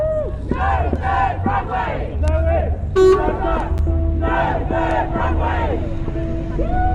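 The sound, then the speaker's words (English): Campaigners cheer and whoop jubilantly on the steps of the High Court after appeal court judges heard their case against a third Heathrow runway, voices rising and falling in loud waves, with a short sharp squeal near the middle over a steady low rumble of traffic. “And then there was jubilation on the steps of the High Court.”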